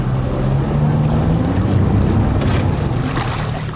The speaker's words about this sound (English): Not far from the centre of Windsor, a flooded street is being used as a makeshift boat ramp by the SES, the RFS and the police.